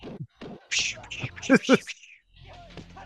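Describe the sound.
A voice imitates martial arts fight sound effects like those in the film No Retreat, No Surrender, with a quick run of sharp, breathy bursts and hissy whooshes, fairly loud, ending in a short pause before softer sound resumes.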